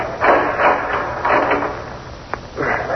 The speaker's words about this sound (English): All right, lower to the floor while I open the door and snap on the light.